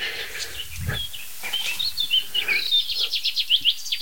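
A pipit sings a rapid, finch-like song of high chirps and trills, building into a quick rhythmic series of bright notes toward the end, with no talking and a soft low rumble beneath.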